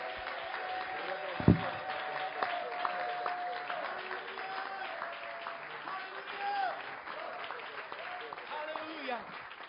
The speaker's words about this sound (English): Why don't you give the Lord a hand clap of praise? Bas les mains pour le Seigneur en louange.